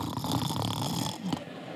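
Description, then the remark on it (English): A voice imitates a loud, raspy snore, one drawn-out guttural rattle lasting just over a second before trailing off into a softer breath. “He's never snoring. He's never asleep.”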